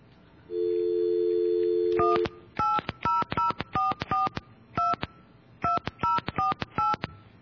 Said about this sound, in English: So we're going to call an 800 number, try to get through to an operator